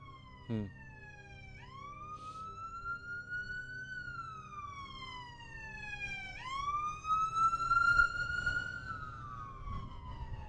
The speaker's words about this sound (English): It's funny hearing the sirens here, the holographic nature of what we're talking about, you know, showing up.